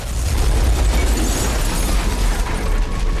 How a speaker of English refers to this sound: She turns to leave with Reynard. His car explodes in a fireball.